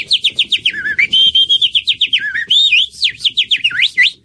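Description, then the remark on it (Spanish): A voice imitates a canary with rapid, warbling whistled trills and chirps for about four seconds. The song is loud, with no talking over it. “Todo el día cantando el canarín.”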